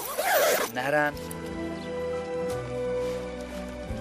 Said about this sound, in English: I always keep my backpack and everything else inside my tent because I want to zip up the entrance flap. That's because I don't want any scorpions, snakes, or other creepy crawlies coming into my tent.